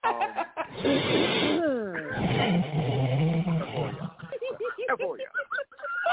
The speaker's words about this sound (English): Right. Keep blowing your nose. Keep blowing your nose. That is hilarious.